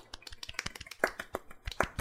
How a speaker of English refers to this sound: Everybody please clap, but quietly, because we're on recording.